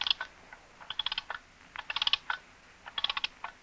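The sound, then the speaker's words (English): An alarm clock being wound and set at 11: quick, crisp ratcheting clicks in short bursts, four clusters separated by brief pauses, fairly quiet and with no voices. “The alarm is set and wound at 11.”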